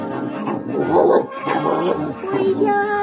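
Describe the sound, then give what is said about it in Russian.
A huge shaggy dog leaps out and growls and snarls in rough, rumbling bursts for a few seconds, with a sustained musical tone coming in near the end. “Навстречу ему выскочил и зарычал огромный лохматый пес.”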